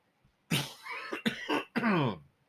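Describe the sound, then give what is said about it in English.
A loud fit of coughing, three or four harsh bursts in quick succession, the last one rougher and more drawn out, with no talking around them, in southeastern Arizona. “I'm gonna need to get a cough button.”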